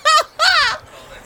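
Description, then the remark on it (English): A bird gives two loud, harsh clucking squawks in quick succession, the second longer and falling in pitch, followed by quiet background noise. “Keep talking, bird, bitch.”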